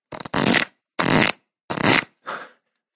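Four short, papery riffling bursts with a rapid fluttering texture, as a deck of Wonder Words cards is shuffled, separated by brief pauses. The last burst is softer and more muffled than the others.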